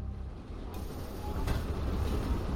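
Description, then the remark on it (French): A steady, low rumble of a commuter train rolling along the rails, growing slightly louder partway through with a brief rattle, continuous, with no voices. “À cette époque, Jay-Z utilise les trains de banlieue pour transporter les pains de coke que Calvin lui confie.”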